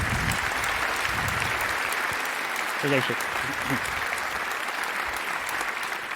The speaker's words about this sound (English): So please welcome, with a very warm applause,